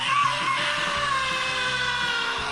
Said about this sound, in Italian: Questo è l'urlo liberatorio, a posto nostro l'ha fatto un altro.